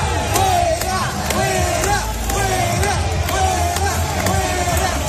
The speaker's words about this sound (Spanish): A su llegada, abucheos para Félix Bolaños.